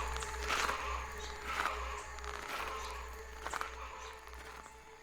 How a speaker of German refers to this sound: Die Stimmen verstummen. Ich höre Schritte.